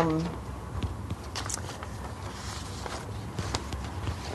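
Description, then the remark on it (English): Sheets of paper being shuffled and handled as someone gets another paper, with a few crisp rustles and soft crackles scattered irregularly over a low, steady background hum. “And let me get my other paper here.”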